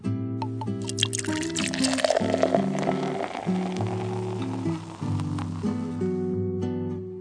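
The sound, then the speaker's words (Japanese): Cold drinks, chuhai and highballs, are poured steadily into glasses for several seconds, with drips and the rising fill of glasses, set against a bright musical tone pattern. No one speaks. “はい、僕はハイボールで、じゃあお願いします。”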